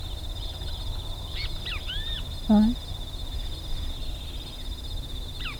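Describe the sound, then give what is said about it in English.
A great kiskadee, about 70 feet away on the airstrip road about 300 feet before the main road to Becker's, at 7:50 a.m., gives a few short, rising and falling calls, moderately loud over a steady high insect drone. A man speaks a single word and a brief call returns at the end. “That was a great kiss, kitty, which I did not see.”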